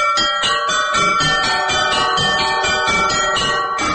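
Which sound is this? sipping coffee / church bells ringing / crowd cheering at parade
church bells ringing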